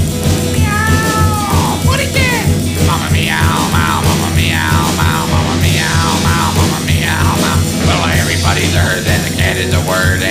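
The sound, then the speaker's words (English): A string of drawn-out, cat-like meows repeats one after another over a steady, droning musical backing, loud throughout. “What a cat. Mama meow, meow, mama meow, meow, mama meow, meow.”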